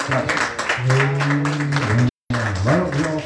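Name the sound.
audience clapping hands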